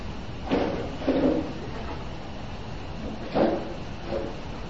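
A door is handled and shut, with a couple of pairs of short wooden clunks and rattles spread over a few seconds against a steady background hiss, with no voices.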